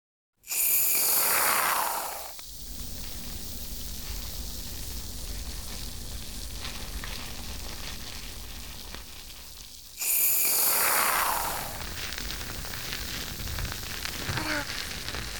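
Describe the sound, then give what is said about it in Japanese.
Two bursts of shampoo foam hiss out loudly as foam is dispensed for a hair wash, each followed by a long stretch of soft, steady fizzing and fine crackling bubbles popping, with no voices. “シュワーパチパチって音するでしょ。”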